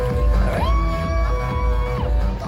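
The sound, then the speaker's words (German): A loud crowd cheers continuously at a drag performance, with high sustained whoops and shrieks rising above a dense roar of many voices, energetic throughout. “Immer mehr geben wollte mit jedem weiteren Jubelruf.”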